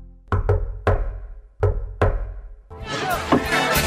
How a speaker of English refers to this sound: I didn't hear the secret knock. I did the secret knock. Of course, it's pretty loud in here. Could you do the secret knock again?